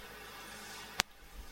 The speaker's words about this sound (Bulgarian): Може да го изключи вентилатора.